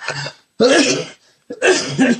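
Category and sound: human body sound, cough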